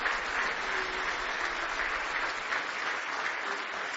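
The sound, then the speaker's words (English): Sustained applause from a church audience giving the Lord a hand clap of praise, a dense, steady wash of many hands clapping at once that stays loud and even for several seconds with no talking over it. “Give the Lord a big hand clap of praise if you love Him.”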